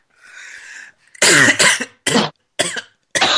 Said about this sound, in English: No, I'm coughing too. Should edit all of the coughing out. It's the coughing choir.